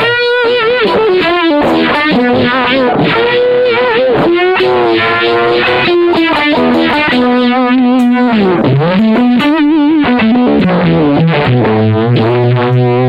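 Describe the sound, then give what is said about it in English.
A heavily distorted electric guitar plays a bending, sustained lead line through a Monterey pedal combining fuzz, octave and univibe, with a wobbling, swirling modulation, loud with no voices. “The Monterey is basically a distortion unit, a octave unit, and a univibe in it.”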